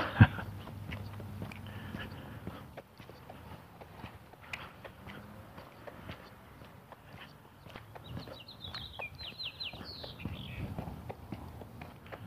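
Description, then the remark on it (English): Birds chirp cheerfully in the morning in a brief, bright burst of repeated high notes partway through, over steady footsteps and outdoor background noise. No one speaks. “Cheerful sounding birds this morning.”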